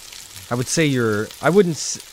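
A brief frying-pan sizzle sound effect hisses beneath a couple of short, tonal vocal swells, like a quick radio sting lasting about two seconds, fairly loud, marking a radio segment called the frying pan in the 10 o'clock hour on Friday.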